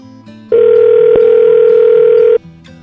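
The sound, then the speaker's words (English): A loud, steady telephone dial tone holds one unbroken mid-pitched hum for about two seconds, then cuts off abruptly, with faint low background sound before and after. “I want to call her back just to say that.”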